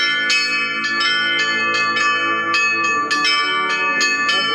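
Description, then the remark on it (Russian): Orthodox church bells of a correctional institution church in Stavropol Krai, Russia, ring out in a steady, overlapping peal calling people to prayer, with repeated bright strikes about every half second layered over a sustained, shimmering hum. No voices, just the loud, continuous clang of the bells. “Теперь этот звон будет собирать всех на молитву и призывать к покаянию.”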